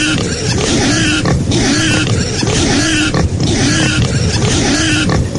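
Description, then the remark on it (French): Cyril Guimard loudly imitates a pig's squeals and grunts with his voice, a continuous, raspy, wavering squeal repeated in bursts for several seconds, with no other talk. “Alors, je ne sais pas si on a des poètes, mais Cyril Guimard est très fort dans le cri de cochon.”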